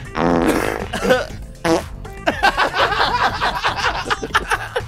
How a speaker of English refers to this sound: Because I can sit here and press fart effects all day. How many are there? Oh, there's like about 30. Pages and pages of them.